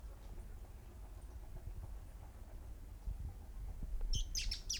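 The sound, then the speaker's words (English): A steady low rumble fills the background, then near the end a cluster of quick, bright bird chirps bursts out, several high notes in rapid succession, from several birds chasing one another in pairs. “Well, several birds still. They're chasing one another, but they seem to occur in twos.”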